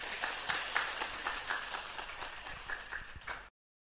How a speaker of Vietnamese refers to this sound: Một tràng vỗ tay thật nồng nhiệt.